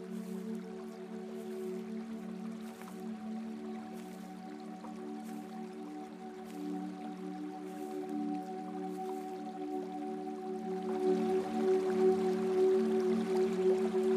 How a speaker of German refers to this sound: Auf einer Waldlichtung triffst du auf den kleinen Fluss. Und entscheidest dich, eine Weile neben dem Fluss stromabwärts zu laufen. Die Geräusche des Wassers begleiten dich.